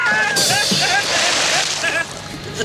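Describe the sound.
A loud splash as Mrs. Thatcher falls off a boat into the water, the rushing churn lasting over a second before fading, with a voice crying out at the start.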